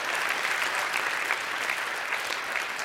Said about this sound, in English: Clap your hands, all you people, and bring him on in.